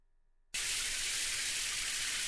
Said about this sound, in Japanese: シャワーの湯は熱くない？